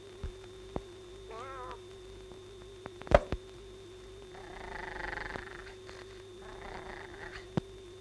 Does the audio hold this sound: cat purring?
yes